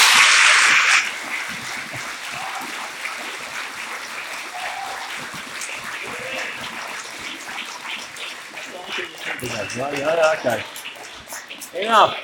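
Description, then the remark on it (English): A crowd breaks into applause that starts loud, then settles into steady, dense clapping for about twelve seconds, with some voices and cheering rising near the end before it fades. “I tell you, week after week, I've been working here for 13 years, and I never, ever get a round of applause.”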